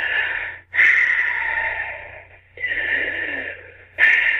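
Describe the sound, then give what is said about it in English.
A voice imitates the heavy, labored breathing of people struggling to get air, similar to Darth Vader: long, rasping breaths in and out, each about a second or more, separated by brief pauses, harsh and airy throughout. “that was really, really hard, hot, not like a huff and puff, but they were just struggling to get the air to them, eh? And I'm gonna imitate the sound, and hopefully you can hear it well, and it transfers well, but the breathing was, you know, very.”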